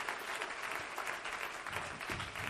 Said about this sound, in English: Well, clap your hands. Well, praise God.